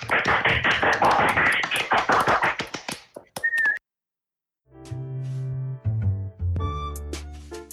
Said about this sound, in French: On peut tous l'applaudir. Allumez les micros.